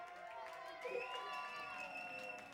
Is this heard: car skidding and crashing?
no